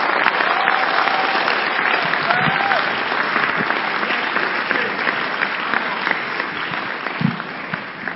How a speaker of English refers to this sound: You are clapping, clap well. Clap. So that it will pain the enemies. Clap.